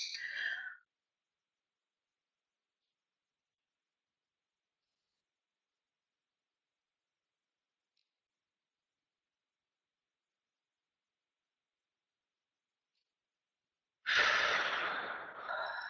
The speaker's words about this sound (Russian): Так, давайте вдохнем поглубже, сделаем глубокий-глубокий вдох и задержим дыхание, чтобы вот прямо же голова закружилась. Давайте так.